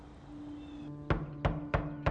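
Four firm knocks on the front door of a house land in an even, unhurried rhythm, each a sharp, solid thud rising above a low steady hum, with no one speaking.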